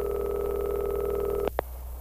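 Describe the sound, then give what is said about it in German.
A steady, slightly buzzing telephone line tone hums for a moment in a phone booth, then stops abruptly with two quick clicks, leaving only a faint quiet hiss. No one speaks. “Ich ging in eine Telefonzelle.”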